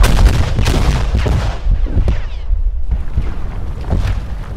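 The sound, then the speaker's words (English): A rapid, irregular series of loud explosions on the north face of a building, each burst cracking sharply before sinking into a heavy, continuous low rumble, with no voices present. “I didn't want to be on the side of the building where the things were blowing up”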